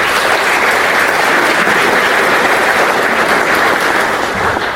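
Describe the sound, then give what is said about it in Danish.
A crowd at a conference claps for the event organizers, steadily and loudly for several seconds, a dense, continuous patter of many hands with no voices over it, easing off slightly at the very end. “Skal vi ikke lige klappe af arrangørerne?”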